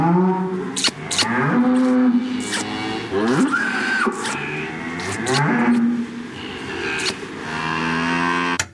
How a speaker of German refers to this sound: Das war ein Dialog mit einer heiligen Kuh. Ja, einer heiligen Kuh. Die heilige Kuh Maria bei Tür.